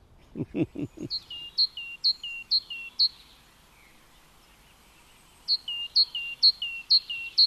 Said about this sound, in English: So, did you hear that? That's the great tit. The great tit is a beautiful garden bird. It has a black head and it's got a lovely yellow breast.